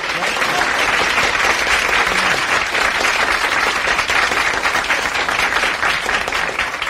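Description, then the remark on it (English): A crowd applauds steadily for several seconds on the show Hullabaloo with Murray the King, a dense, loud wash of many hands clapping with no pauses and a faint murmur of voices mixed in. “Hold your applause, kids, hold your applause.”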